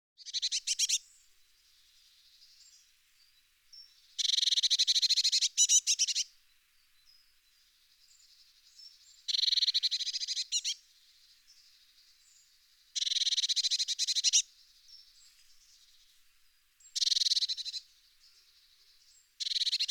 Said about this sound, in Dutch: Ook de pimpelmees is een holenbroeder. Als wij of een kat of een andere vijand te dicht bij het nest komen, dan klinkt de alarmroep van de ouders.